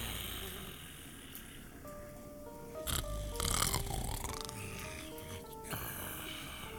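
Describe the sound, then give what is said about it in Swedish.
A few deep, rasping snores and sleepy breaths from someone lying on a sofa, over soft, sustained background music, with a louder snort-like breath near the middle. “Tomten pillar fram en gammal nötkatalog från en postorderfirma och lägger sig på soffan och andas djupt.”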